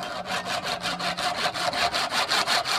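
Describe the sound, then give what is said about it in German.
A hand saw cuts through the skull of a roebuck lying on a small board, held in the left hand and sawn with the right, in steady, rapid back-and-forth strokes, each rasping stroke bright and hissy, repeating about five times a second with no voices. “In der linken Hand hält Bruno Ambauen den Tierkopf fest, mit der rechten sägt er daran.”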